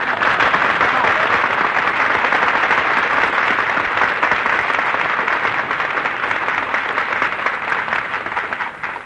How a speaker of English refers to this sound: That terrific applause you just heard, folks, is breaking Benny's heart.